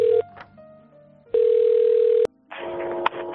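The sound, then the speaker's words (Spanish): A telephone ringing on the line: a steady, low-pitched electronic tone that cuts off briefly, then a second tone lasting about a second, followed by the clatter and rustle of the receiver being picked up. It is a radio station's call to a care home in San Antonio Benajever, a town in Valencia. “nos coge el teléfono en la residencia en la que está desde hace 4 años, San Antonio Benajever, situada en la localidad valenciana que lleva el mismo nombre.”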